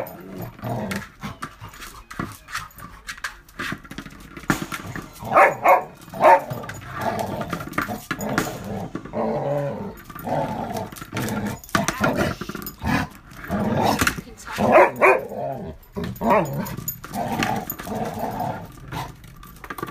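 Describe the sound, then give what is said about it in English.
A dog, Tartan Yo-Yo Rainbow Bum, growls and barks, its rough snarling rising into louder bursts of barking that come in clusters, then settling back into low growls between them. “She used to do that. She's like, rah, rah, rah, rah.”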